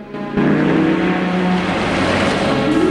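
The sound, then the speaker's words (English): A car engine rumbles as a car pulls forward to a pump at a gas station, starting abruptly after a brief quiet moment and holding a loud, steady drone with no voices. “Felix's car, which was waiting behind him, pulls up to the pump.”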